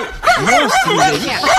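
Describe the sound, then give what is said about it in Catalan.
A small dog barks in rapid, high-pitched yaps that run together almost without pause, loud for the whole short stretch. “I gossos petits que, inversament proporcional a la seva còrpora, emeten uns lladrucs insuportables i molt continus.”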